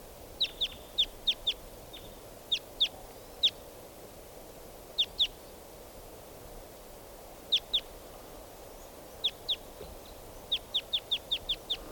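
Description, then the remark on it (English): Bird calls: sharp, high-pitched chip notes repeated in quick bursts of two to five, separated by short pauses, standing out over a steady low hiss with no talking. Type 2 and type 4 birds call, one perched in a tree overhead and others flying over. “Now he's perched right up in the tree above me.”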